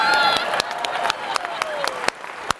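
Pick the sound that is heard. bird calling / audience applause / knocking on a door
audience applause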